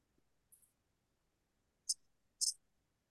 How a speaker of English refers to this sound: And you probably hear me feverishly clicking. I'm going as fast as I can.